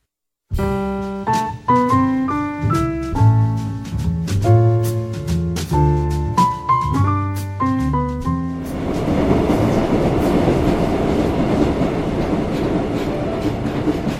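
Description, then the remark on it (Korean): A subway train crowded with people on a late-night commute pulls away with a stepped, rising electric motor whine, then settles into a steady, loud rumble of wheels on the rails, with no voices. “늦은 밤 퇴근길, 사람들로 가득한 전철 안”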